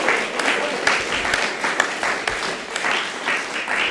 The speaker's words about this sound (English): Now, it says here the people applaud. Praise God. Hallelujah.